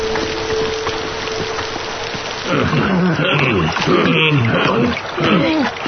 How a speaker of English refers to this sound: As we sail down the River of Slurm, you'll see our mixologists at work.